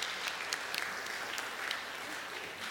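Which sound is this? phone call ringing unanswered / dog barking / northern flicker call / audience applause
audience applause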